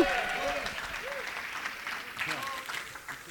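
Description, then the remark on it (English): An audience applauds steadily after a prayer, clapping and shouting for a man who has just been prayed for, dense clapping filling the whole stretch, while scattered voices shout and cheer over it at rising and falling pitches. “You love him, applaud and shout for him.”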